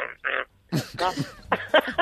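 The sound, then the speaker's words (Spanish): A sow squeals and grunts while giving birth, in a run of short, harsh bursts, some rising into shrill, strained cries, with brief gaps between each outburst. “Pues, lo podemos volver a escuchar, por favor, el sonido de la marrana pariendo.”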